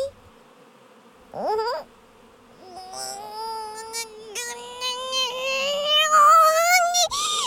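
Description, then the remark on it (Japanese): Bees buzz in a continuous, fairly loud drone that starts with a brief burst, then swells and slowly rises in pitch for several seconds with no talking over it. “ハチども、ハチミツを出せと言っておるのじゃ。”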